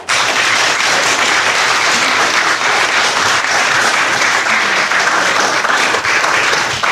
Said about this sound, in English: It's nice to see that we have some vibrant youth that are anxious to take up the call of Christ. Let's give them a round of applause for...